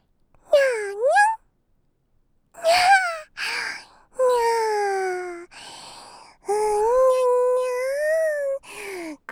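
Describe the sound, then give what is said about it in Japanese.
A cat meows about six times, fairly loud, with some calls short and rising and others long and drawn out, separated by brief pauses. “猫ちゃんが生まれてきたら優しく迎えるのがマナーですよ。”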